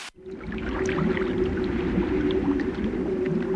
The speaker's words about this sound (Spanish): el riachuelo se convierte en un río cargado de limo. El coelófisis es arrastrado por el torrente de agua y finalmente acaba sepultado en el lodo.